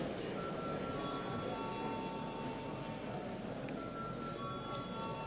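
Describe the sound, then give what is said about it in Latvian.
A continuous electric bell rings steadily for about five seconds in the chamber of the Latvian Saeima (parliament), called for before a vote; its bright, sustained tone holds at a constant level over a low rumbling murmur in the background. “Lūdzu zvanu.”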